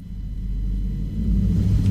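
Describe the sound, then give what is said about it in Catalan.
A deep motorcycle engine with a loud exhaust rumbles steadily in the echoing parking garage of an apartment building as the motorcycle leaves, its low drone building slightly louder toward the end, with no one talking. “És curiós, que es coli el soroll de la moto, sí, del pàrquing.”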